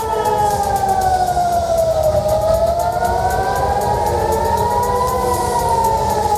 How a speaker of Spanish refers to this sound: Y el sonido de las sirenas antiaéreas no ha parado de sonar durante toda la mañana en las principales ciudades de Israel, como Jerusalén y como Tel Aviv.